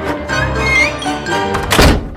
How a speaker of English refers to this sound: Gotta go. The concert hall doors are about to close. See you next time.